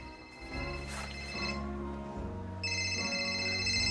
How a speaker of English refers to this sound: In the bathroom, Nat makes a call, and at the table, Gabe's phone starts to ring.